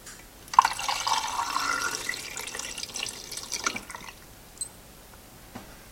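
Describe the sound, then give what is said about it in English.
Photographic developer is poured steadily into a film processing tank for about three and a half seconds, a splashy trickle that stops abruptly, followed by a couple of faint drips and quiet. “I'm gonna take the rubber lid off, and I'm gonna pour in the developer and start my stopwatch as soon as it's all in.”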